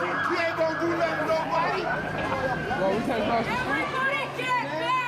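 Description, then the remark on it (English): A crowd of many voices shouts and jeers at once, a loud, continuous jumble of overlapping yells with no clear words, while a steady siren-like tone runs underneath throughout. The crowd in San Francisco jeers and heckles police officers who have their guns drawn, recorded on cell phone video. “and you can hear the crowd jeering and heckling the cops.”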